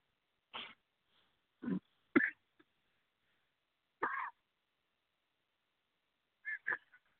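A person coughs harshly about six times in short, raspy, hacking bursts, spaced irregularly with pauses between, trying to clear something swallowed that is stuck in the throat.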